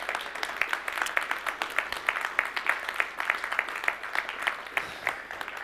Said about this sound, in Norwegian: Vi må ha en applaus for damene i menigheten, dere.